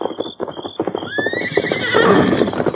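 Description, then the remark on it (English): A horse named Silver whinnies with a rising, quavering call over a steady clatter of hooves clip-clopping in a quick rhythm, the neigh swelling louder toward the end. “In the saddle, Tonto.”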